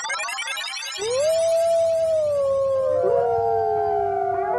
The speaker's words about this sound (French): Tu as sûrement reconnu le cri du loup.